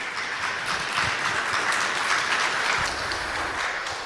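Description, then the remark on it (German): A talk audience applauds steadily to welcome two speakers, a dense wash of many hands clapping at a constant, fairly loud level for about four seconds with no voices standing out. “und bitte einen riesigen Applaus für die beiden.”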